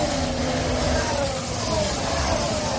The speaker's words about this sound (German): Ja, wie an der Hauptverkehrsstraße um die Ecke sind ja auch nur noch 6-Zylinder-Motörchen mit 1,6 Liter Hubraum.